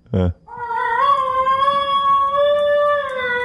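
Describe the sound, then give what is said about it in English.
A brief loud burst, then a long wavering yodel-like howl imitating a Basenji dog: one sustained, rich-toned call with a slight rise and gentle pitch wobble, holding steady for about three seconds. “Can we get any audio on the yodeling?”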